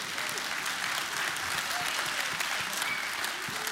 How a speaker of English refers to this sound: Now, they clapped really loud at that at the 9 o'clock service today.